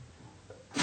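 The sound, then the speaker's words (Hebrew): A single sharp, loud sneeze bursts out near the end, following a moment of quiet background noise with no talking. “לבריאות.”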